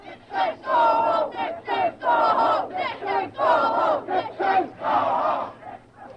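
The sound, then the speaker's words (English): A large crowd of demonstrators showing distaste for American symbols shouts in unison, loud rhythmic chanted bursts repeating several times over a constant low rumble of massed voices, as an American flag is ripped from a flagstaff and tossed to them. “Showing their distaste for American symbols as well as American presidents, the stars and stripes were ripped from a flagstaff and tossed to the crowd below.”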